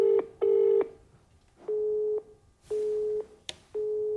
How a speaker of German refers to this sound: wir haben Calvin Air auch angerufen, mehrfach, auf seinem Handy, über FaceTime.